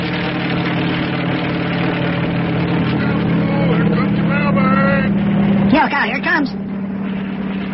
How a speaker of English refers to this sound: And that helicopter is bringing his mail from the United States.